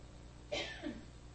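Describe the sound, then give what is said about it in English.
A single sneeze, apparently imitated by a voice: a sharp hissing burst followed by a lower voiced 'choo', moderately loud against a quiet background. “And after sneezing, the first thing the child does is to see.”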